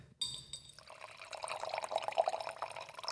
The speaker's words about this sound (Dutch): Ja, ik heb een drankje. Ik ga hem even inschenken. Dat is zoals altijd een beetje gepiel als je een microfoon voor je neus hebt. Maar ik ga het toch doen.